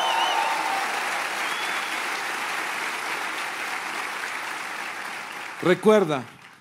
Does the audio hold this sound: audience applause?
yes